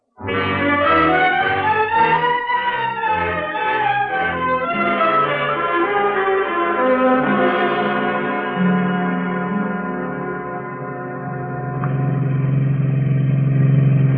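A car engine revs up and pulls away, its droning pitch rising and falling through a steady rumble, with the noise swelling louder at the end. No one speaks.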